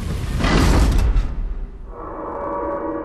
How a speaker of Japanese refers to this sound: 皆さん、扉が開きましたよ。